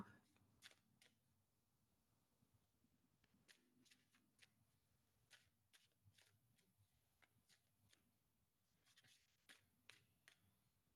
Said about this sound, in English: So calming, watching someone else shuffle cards.